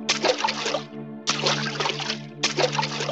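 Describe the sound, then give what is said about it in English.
Very high sea waves crash and splash in three rolling surges under a black sky, each swelling and washing away, loud, over a steady low humming drone. “Now the sky is black and the waves are very high.”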